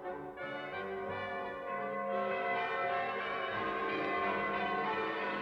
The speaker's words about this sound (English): At that very moment, the sound of bells began to ring across the fields. They were the church bells of the city of London, and they seemed to be singing, "Turn again, Whittington, Lord Mayor of London."